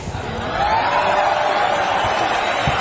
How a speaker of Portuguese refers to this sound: Aplausos.